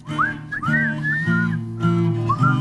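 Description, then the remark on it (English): Someone whistles a lilting, twangy country-style melody with sliding notes, clear, over a steady low instrumental backing with no talking. “It's not country unless you whistle. Yeah, there's got to be some whistling. Then you start whistling.”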